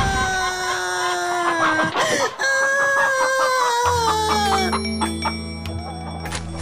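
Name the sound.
hen clucking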